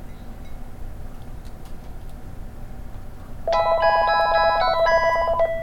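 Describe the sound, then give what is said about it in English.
After a few seconds of low background hum, a cordless phone with talking caller ID rings for an incoming call, base and handset together: a loud electronic ring of layered warbling tones that continues steadily to the end, with no voices. “It'll always repeat as it rings. After the second ring.”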